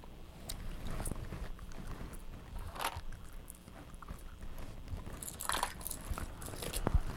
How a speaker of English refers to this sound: You're eating the cone part. There you go. Eat the ice cream.